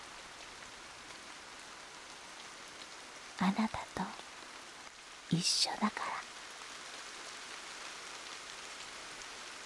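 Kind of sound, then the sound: nature, rain falling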